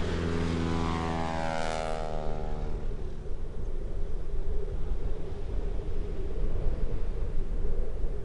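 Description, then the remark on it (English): A propeller airplane engine drones past over a vast, wild area, its whining pitch sliding downward as it moves away, then dissolves into a steady rumble that fades out, with no voices. “And it hits you first, and it hits you hardest when the sound of that plane just starts to fade, and then it's gone.”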